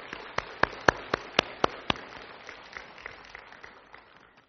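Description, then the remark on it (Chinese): An audience applauds to thank the fathers for their year of hard work: a run of sharp, evenly spaced claps stands out over scattered softer clapping from the crowd, then the applause thins and fades away after a few seconds. “我也邀请所有的姐妹们用鼓掌来感谢我们父亲这一年的辛劳。”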